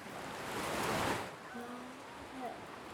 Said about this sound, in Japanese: また波の音。波は山に寄せては、引いたらまた寄せて。この音を聞くだけで、あなたはまたどんどん気持ちよくなっていく。